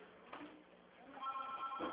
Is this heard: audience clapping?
no